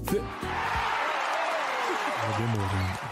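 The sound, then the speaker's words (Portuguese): A crowd claps steadily throughout, a dense, continuous wash of hands clapping, while a man's voice speaks loudly over the applause at the start and again near the end. “Eu vou tirar essas palmas aí, você vai ver.”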